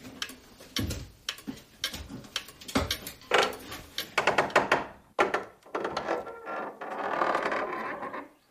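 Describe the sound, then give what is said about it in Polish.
A cuckoo clock, a family heirloom hanging in an office in a memorial room, ticks with a steady series of sharp, woody clicks and knocks, followed near the end by a brief, softer mechanical whirr. No one speaks. “Tu słyszę zegar z kukułką.”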